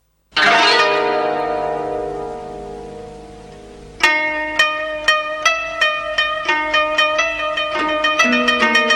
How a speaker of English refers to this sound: Big Ben stops bonging, but it's fine, there's plenty more bells in Parliament.